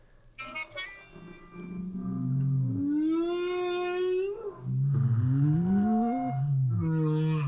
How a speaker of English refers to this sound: Background, you can hear other whales. None of them is very close. It sounds like they're right there, but they're maybe 1 or 5 miles away.